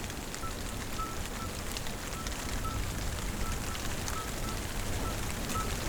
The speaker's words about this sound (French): Vous écoutez la fin d'un orage. Contre un arbre.